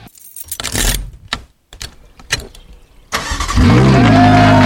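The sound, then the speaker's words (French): Keys jingle and click against an ignition for a few seconds, then a car engine turns over and roars to life, idling loudly and steadily. “Est-ce qu'on choisit la clé numéro 1, la clé numéro 2 ou la clé numéro 3 pour faire démarrer la voiture et surtout la faire klaxonner aussi?”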